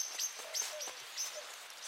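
A Eurasian collared dove cooing softly on an urban housing estate, a few short, low hooting notes spaced out over a quiet outdoor background with faint high rustling and hiss.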